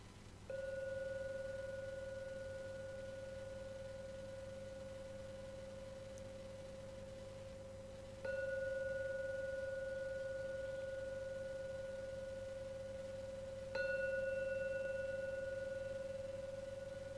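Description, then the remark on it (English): A gong is struck three times to signal the end of a 45-minute meditation, each strike ringing out with a sustained, pure metallic tone that slowly fades before the next, with long, unhurried gaps between them and no talking. “So now, ring the gong 3 times.”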